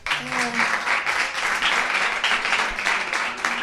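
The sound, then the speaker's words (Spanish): Steady applause from a small studio audience for two guests as they are thanked for coming, a dense patter of clapping that holds at an even level for several seconds, with a brief murmur of voices near the start. “Un aplauso para ellos.”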